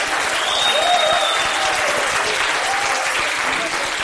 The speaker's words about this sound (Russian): Значит, смотрите, выбирайте лучшего, на ваш взгляд. Сейчас голосуйте аплодисментами. Договорились?